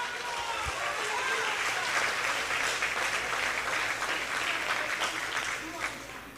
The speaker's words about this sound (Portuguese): Aplaude a ele.